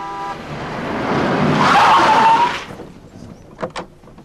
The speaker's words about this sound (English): Suddenly, the Rolls-Royce screeches round the corner, and with a look of terror, Danny jams his foot on the brake